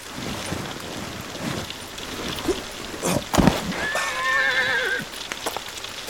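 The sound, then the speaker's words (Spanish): A horse approaching along a road gives a high, wavering whinny that slides downward over about a second, preceded by a few sharp knocks and set against a steady hiss like rain. “Me parece que se acerca un caballo al trote.”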